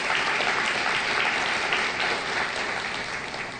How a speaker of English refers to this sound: You can clap. Praise the Lord for that.